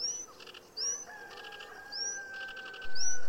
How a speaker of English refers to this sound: I was able to listen still to the manic jabbering of small brown birds, but now I know them as sedge warblers.